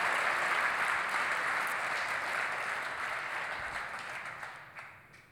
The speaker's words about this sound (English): Clap it up for him.